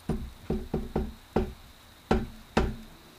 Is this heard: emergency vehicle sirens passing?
no